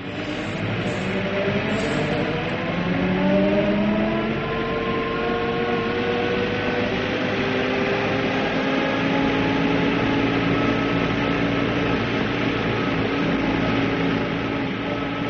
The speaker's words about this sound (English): Farnham House crashed into the street behind us. It was the vibration of the truck, I suppose.